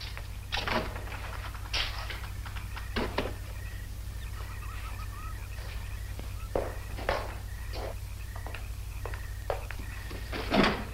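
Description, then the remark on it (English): A door is shut, followed by a run of sharp clicks and rattling knocks as a lock is worked from inside, all over a steady low electrical hum. “You know I'm not leaving here until you lock safely inside.”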